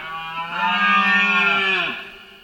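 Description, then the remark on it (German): A single deep, drawn-out roar from a rutting stag, loud, a rough harmonic bellow that swells and then fades over about two seconds, with no voices. “Es könnte das eindrucksvolle Rühren der Hirsche sein.”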